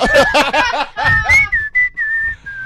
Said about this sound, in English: And I whistle to the music I'm listening to. So they must know. It's not like yeah. And it's always Afrikaans pop.